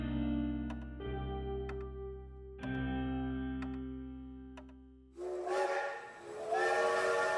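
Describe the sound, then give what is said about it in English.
An old steam locomotive, on the route between Dust Town and Scumwater, sounds its whistle in long, layered blasts that shift pitch twice, then gives way to a loud burst of hissing steam with faint mechanical ticks. “The old steam locomotive was the fastest mode of transport between Dust Town and Scumwater.”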